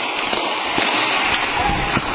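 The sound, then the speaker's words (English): Several sharp bangs and pops of explosions and gunfire during a police shootout burst out at irregular intervals over a constant hiss, sounding tinny and far off down a street, recorded on a cell phone held out a window. “There's explosions and gunfire going on down the street.”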